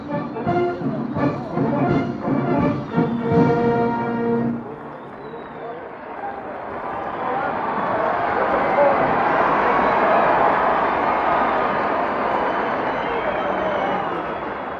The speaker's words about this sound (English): And here it is, the ovation for the general. He stands bareheaded, looking over the crowd. The crowd cheers, flags are waved.